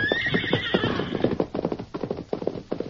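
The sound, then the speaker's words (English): A horse ridden by the sheriff's son lets out a high, wavering whinny over a quick, steady clatter of hoofbeats as he rides away, and the galloping keeps going after the neigh fades. “Lance and Kansas stood in the doorway and watched the sheriff's son ride away until he had disappeared over the horizon.”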